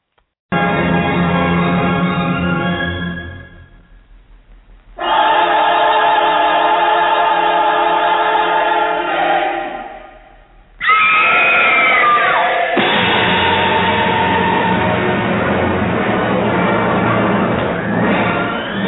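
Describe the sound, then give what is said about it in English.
A woman in a film scene screams in three long, loud, sustained cries separated by brief pauses, with a slightly muffled, old-recording quality and no talking. “But anyway, it's a great scream, and we'll play a little encore again.”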